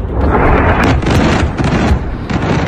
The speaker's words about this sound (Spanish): Explosiones que esta madrugada han alcanzado zonas del sur de Beirut, donde han muerto más de 50 personas en los últimos días por los ataques.